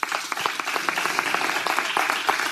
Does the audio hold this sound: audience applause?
yes